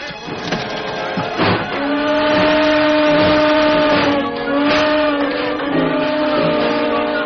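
A train pulls away from a station, its horn sounding in long sustained tones over a steady mechanical rumble and clatter that stays loud throughout.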